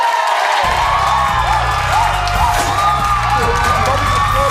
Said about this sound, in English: There's like 14 people in the crowd. They don't make this much noise.